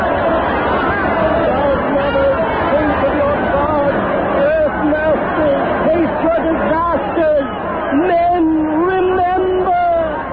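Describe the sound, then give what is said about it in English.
A dense, terrified mob murmurs and chatters loudly all around, many voices blending into an agitated hubbub that stays steady, with a few individual voices rising more clearly near the end as the crowd begins to quiet. “A voice over the crowd somewhere. They hear it. They're quieting down.”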